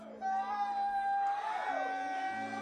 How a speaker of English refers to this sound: First of all, give yourselves a round of applause for coming to see us.